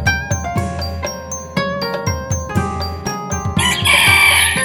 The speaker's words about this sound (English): Farmyard cockerels joined in with crowing. You can imagine what a lovely concert they made.